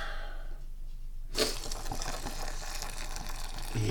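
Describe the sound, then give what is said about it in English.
After a moment of near silence, hot water for tea starts pouring, a steady hissing splash that runs unbroken to the end. “now we need to pour the water.”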